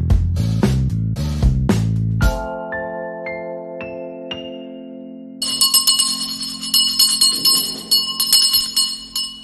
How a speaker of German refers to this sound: Was hat diese Glocke eigentlich zu bedeuten? Können Sie mir das erklären? Ja, und zwar ist die Glocke dafür da, alle aufzurütteln, wenn das Essen dann auch wirklich fertig ist.